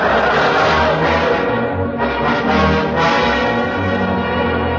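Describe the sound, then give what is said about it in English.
The large bell of an old mission church rings loudly and continuously, its deep, rich tones overlapping and sustaining throughout with no pause between strokes. “There it is, the big bell in the Robin's old mission there.”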